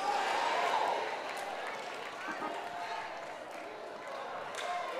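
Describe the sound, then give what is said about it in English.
A crowd murmurs and bustles steadily while scattered sharp hand slaps ring out here and there as audience members slap their neighbors high fives across a packed crowd. “Slap your neighbor high five and say, you're invited, baby.”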